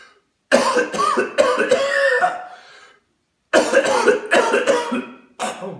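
Two bouts of harsh, hacking coughs after smoking tobacco, each a rapid string of three or four raspy bursts, loud, separated by a brief silence.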